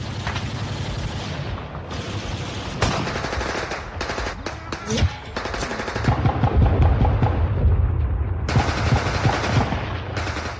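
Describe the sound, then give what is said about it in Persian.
Dense, sustained gunfire in battle: rapid machine-gun bursts and scattered shots crackle continuously over a low rumble, loud, with faint voices underneath, as Iraqi soldiers hidden behind the rocks below shoot and talk to one another. “عراقی ها پشت همین تخت سنگ های پایین پنهان شدند، تیراندازی می کنند و با یکدیگر صحبت می کنند.”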